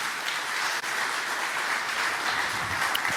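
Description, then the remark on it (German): A steady wash of audience applause at a Chaos event (Datenspuren) for the person who provided the lighting, many hands clapping in a dense, continuous crackle at an even loudness for a few seconds, with no voices over it. “Er kann auch nochmal einen Applaus kriegen, weil hier haben wir Licht, aber draußen haben wir keinen gehabt.”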